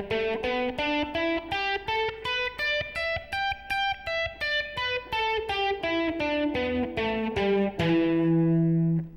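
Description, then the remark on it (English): An overdriven electric guitar runs an E minor pentatonic scale, one octave up starting on the 12th fret, up and back down in steady, evenly spaced notes, ending on a sustained low note that rings out alone. “Also going to use E minor pentatonic one octave up starting on the 12th fret, so let's just run through that one really quickly.”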